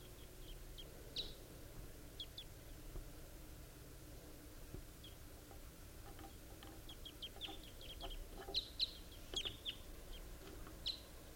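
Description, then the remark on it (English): A pair of wild birds sitting in the top of a tree give short, high-pitched chirping calls at irregular intervals, soft at first and then quicker and louder toward the end, over a steady low background hum. No one speaks. “It sounds just like that same distinctive pair that I heard last night.”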